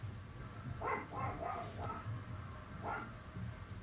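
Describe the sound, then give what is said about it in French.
Faint dogs bark at night from family enclosures in a village, answering one another: a quick cluster of four or five barks, a pause, then one or two more, over a steady low background hiss. “d'autres chiens lui répondent.”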